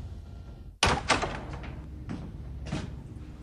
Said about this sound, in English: viciously barges at the door, which begins to split and splinter.